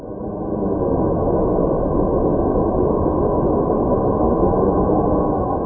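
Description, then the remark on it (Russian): A sonified space recording of the planet Saturn: a steady, dense wind-like roar rises in over the first second and then holds evenly, a broad low rumble with a thin sustained hum above it and no voices. “Сатурн звучит подобно ветру.”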